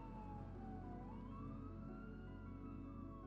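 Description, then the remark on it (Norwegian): An ambulance siren wails steadily as the ambulance arrives at Ullevål hospital in Oslo, its pitch sliding slowly down and then back up, loud over a constant low rumble of traffic or engine noise. “Ambulansen er fremme på Ullevål sykehus.”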